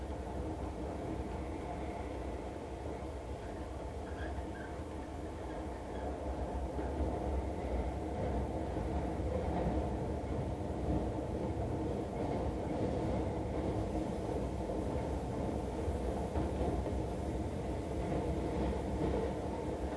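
An Osaka Municipal Subway train bound for Miyakojima rumbles steadily at speed, a continuous deep roar with faint rattling and wheel noise throughout, heard from inside the car with no voices.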